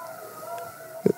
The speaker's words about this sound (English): Do you have a fire alarm going off or do you have a kid screaming? No, it's an ambulance just drove by. Okay. All right, it was loud.